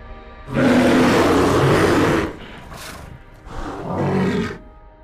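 A bear growls twice: a long, loud, rumbling roar followed after a short pause by a shorter, softer growl. Deep and raspy, with no voices.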